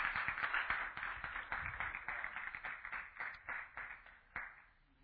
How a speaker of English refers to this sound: Can we give Brother Jody another big hand clap? Was that wonderful? Was that wonderful?